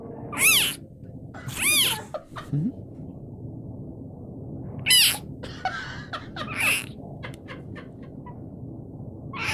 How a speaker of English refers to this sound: They have just debuted their newest baby. It is a clouded leopard. And if you ever want to know what a baby clouded leopard sounds like when it roars, the okay. impressive creature roar, here yeah. is a baby clouded leopard.